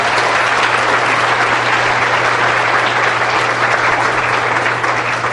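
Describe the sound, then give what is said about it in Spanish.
A crowd applauds steadily for several seconds in tribute to Santander, Colombia: a dense, even wash of many hands clapping at constant loudness, with no voices standing out. “bendita esta tierra, denle un aplauso a Santander, caramba.”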